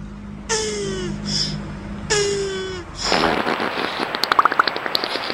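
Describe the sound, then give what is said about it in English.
A beaver fart sound effect: two squealing tones that slide downward in pitch, then a loud, raspy sputter breaking into rapid crackling pops that speed up toward the end. “Yeah, it's funny that he wanted to hear a beaver fart.”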